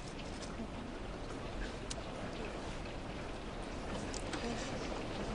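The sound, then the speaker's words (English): Steady rain falls in a continuous, even hiss, with scattered sharper drops tapping through it now and then. “So you're enjoying the rain?”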